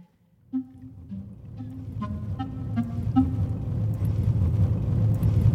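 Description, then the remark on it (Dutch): Steady low rumble of a car driving along the Ellertweg, a road between trees in Drenthe, Netherlands, heard from inside the cabin, with engine hum rising slightly and faint tonal whirs over a continuous road noise bed; no one speaks. “Nou, we rijden in de auto op de Ellertweg in Drenthe, tussen mooie bomen door.”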